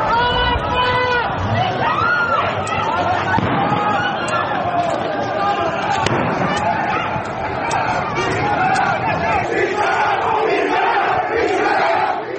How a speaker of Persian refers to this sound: این تصاویر نشان می‌دهد معترضان شعارهای علیه آیت الله علی خامنه ای سر می‌دهند